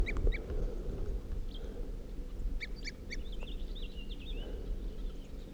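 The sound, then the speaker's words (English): A crossbill in a ponderosa pine on top of a hill, around 8:23 p.m., gives short, clipped tooping calls, single and paired notes at irregular intervals, fairly clear above a steady low rumble of wind noise. No one speaks. “This tree I was looking at with a tooping crossbill.”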